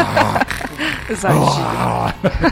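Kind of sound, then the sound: vocal imitation, person imitating snoring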